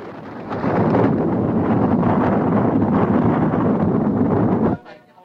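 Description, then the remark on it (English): A massive avalanche of snow and trees roars down, gathering speed, a loud, dense rumble with a hissing rush of snow that holds steady for about four seconds before cutting off abruptly. “The avalanche grows, loosening snow and trees, gathering speed.”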